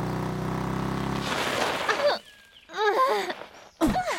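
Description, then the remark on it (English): Motorcycle engines rumble and rev loudly on a sunny day, then roar past in a rush of noise, followed by a brief quiet and a few short, high, swooping sounds. “Motorcycles are vrooming.”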